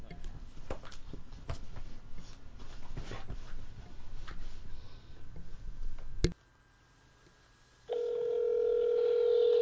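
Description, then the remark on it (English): A phone call being placed to a friend: after muffled background noise and a sharp click, a brief silence gives way to a steady electronic line tone, loud, lasting to the end. “There is a phone call. The phone is ringing.”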